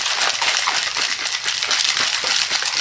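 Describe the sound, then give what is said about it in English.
A cocktail shaker with a built-in strainer, so cold it can barely be held, rattles hard and continuously, ice clattering inside in a fast, bright, steady churn that holds loud for the whole stretch with no voices. “All those in favor of me shaking it some more, I'll shake it some more. It has to be vigorously shook, right?”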